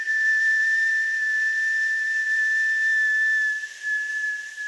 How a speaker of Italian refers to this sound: si portò le dita alla bocca e con tutto il fiato che aveva lanciò un fischio.